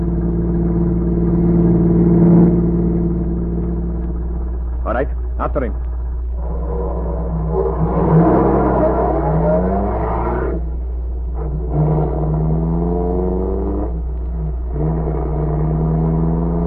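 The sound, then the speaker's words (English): A car engine drones steadily, its pitch climbing as it revs and speeds up to pull alongside another car on the road, while men talk briefly over the motor noise. “Here's his car.”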